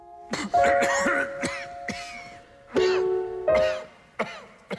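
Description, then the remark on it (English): Repeated sharp coughs from an audience member at a symphony concert in a concert hall, coming in irregular bursts during the first movement over quiet, sustained orchestral notes, loud against the soft music. “someone coughs.”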